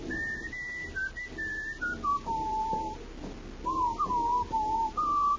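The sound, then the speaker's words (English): A man by the waterfront whistles a meandering tune, clear sustained notes stepping up and down in pitch, with a brief pause midway before the melody resumes, fairly loud over a faint low background hum. “Then he breaks forth into a whistle.”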